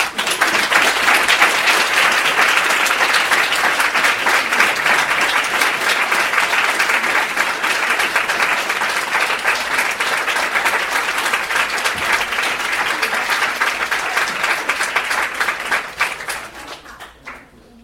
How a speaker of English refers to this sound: And I want y'all to give a great big round of applause for my sponsor and my friend